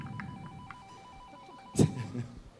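A faint electronic house doorbell rings with a thin, steady tone and soft repeating pulses, followed by a short, louder thump near the end.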